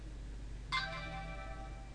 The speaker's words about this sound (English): And actually, just as that song came to an end, you might have heard in the background my phone saying that I've got a text message.